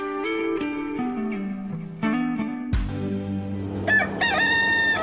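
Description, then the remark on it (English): A rooster crows loudly, a long drawn-out cock-a-doodle-doo followed by another strained, shriller crow toward the end, with no talking. “To kill the rooster, but I couldn't catch him, so...”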